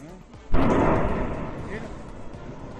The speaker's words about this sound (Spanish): Se escucha perfectamente esa explosión, que son continuas en Cumbre Vieja, donde ha aumentado la violencia el volcán. Es lo que los técnicos llaman fase explosiva del volcán y que ha llegado a un punto extremo.